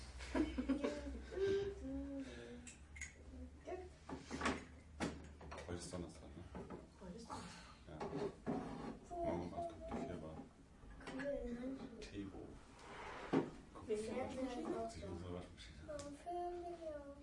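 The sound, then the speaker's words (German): Repeated sharp plastic clicks and knocks of a small toy washing machine that keeps coming apart, its front door being opened, closed and fiddled with, scattered throughout under steady conversation between people. “Das ist so eine Waschmaschine, die geht immer auseinander, wenn du die auch machst.”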